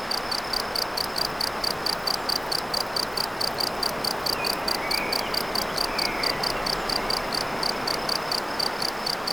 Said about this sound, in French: Non seulement les insectes, les oiseaux, la rivière, et cet insecte-là, n'est-il pas le premier à avoir inventé les sons électroniques?